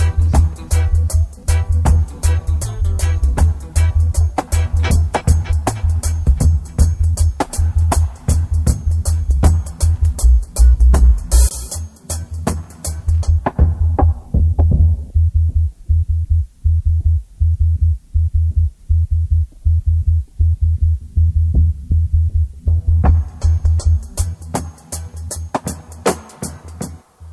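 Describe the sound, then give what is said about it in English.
Loud, deep, throbbing drum beats pulse in a steady, heartbeat-like rhythm over heavy bass; midway the brighter tones fall away, leaving only the low thuds before the full sound returns. “Heartbeats, the drums.”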